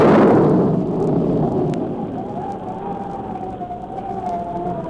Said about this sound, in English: Is that possibly be thunder? It Sure sounds like a storm coming up